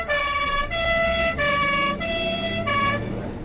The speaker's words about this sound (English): All right, everyone, that's it. There's nothing more to see. Stand clear of the ambulance.